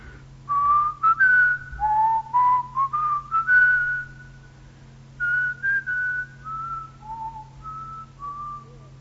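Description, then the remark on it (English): A lady softly whistles the old Sankey revival hymn "There is sunshine in my soul today" while decorating the Altkirk church for harvest: smooth sustained notes with brief pauses between lines, heard alone over a faint low background hum. “And here she was, whistling this in the Altkirk.”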